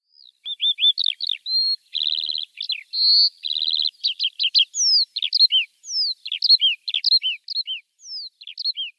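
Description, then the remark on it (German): A continuous stream of rapid, high-pitched trilling and twittering birdsong from Eurasian skylarks singing high in the sky pours out without pause, bright and warbling, with no voices present. “Und überall hoch am Himmel war der Gesang dieser Feldlerchen.”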